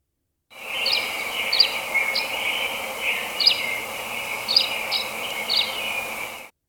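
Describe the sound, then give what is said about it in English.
A tree swallow sings a steady, high liquid twitter, broken by about seven short bright chirps at an uneven pace, clear with no voices or other sounds. “So our last bird to watch this week is the tree swallow. So I'm going to go ahead and play that bird sound.”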